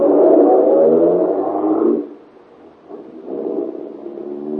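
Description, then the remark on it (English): A car engine roars loudly for a couple of seconds, cuts off briefly, then revs again at a lower level as the driver steps on the gas and the car seems to pull away. No one speaks. “You're almost jubilant as you run to your car, tell Helene the good news, and step on the gas.”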